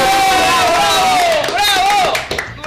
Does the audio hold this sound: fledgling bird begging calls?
no